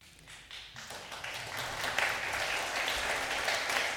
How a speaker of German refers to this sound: Nee, dieser Applaus nicht für mich, sondern an all meine Kollegen und Kolleginnen und all die Ehrenamtlichen, die jetzt meinen Job hier für 3 Monate mit übernehmen. Das ist jetzt der Applaus.